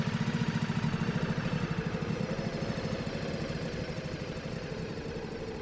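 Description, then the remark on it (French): A snowmobile engine starts and runs at a steady idle, its low chugging pulses rapid and even, loud at first and easing slightly toward the end, with no voices. “Vite, Bully démarre sa motoneige.”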